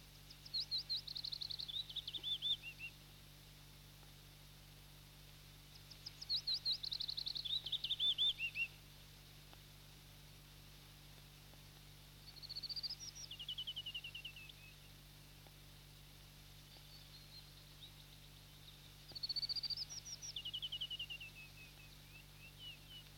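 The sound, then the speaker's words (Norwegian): A bluethroat sings in four separate bursts of high, varied trills and chirps, each a few seconds long with pauses between, fairly faint against a steady low background hum. “Det er den vakre og varierte sangen som har gitt blåstrupen alle disse tilnavnene.”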